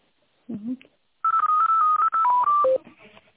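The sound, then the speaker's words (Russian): A quick series of telephone keypad tones beeps out a number, about eight short pitched tones in rapid succession, loud, preceded by a brief murmur of a voice, as someone dials another phone number to connect the caller. “Хорошо, сейчас попробую вас соединить на другой номер телефона.”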